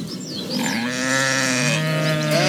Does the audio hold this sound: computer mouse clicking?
no